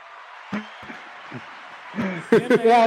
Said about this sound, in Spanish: Así que vamos ahora a recibir con un fuerte aplauso grabado a nuestro amigo